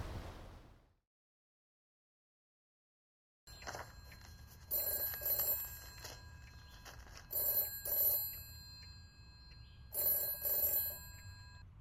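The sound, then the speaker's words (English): A telephone rings in three bright, metallic bursts spaced a couple of seconds apart, over a steady low background hum that follows a brief silence. “I thought I'd better call you.”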